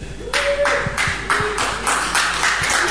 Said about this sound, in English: That was very enthusiastic clapping, actually, for quite a downbeat Happy New Year, wasn't it?